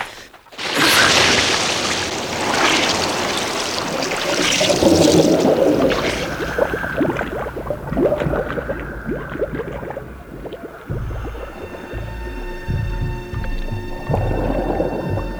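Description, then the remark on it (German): A loud splash as two divers wearing diving goggles plunge into a reservoir, then a muffled, rumbling underwater ambience in clear water with bubbling and low, droning hum, no voices. “Als Bob und Peter unter Wasser waren, eröffnete sich ihnen eine neue Welt.”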